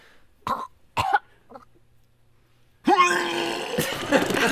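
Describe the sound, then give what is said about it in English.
A cough sound effect: two quick, sharp coughs close together, a brief quiet gap, then a longer, rough, throaty burst that rasps on for over a second, loud. “can I play the sound effect that I brought that I just couldn't find any use for until now? Sure. Okay, here we go. That's it? A cough?”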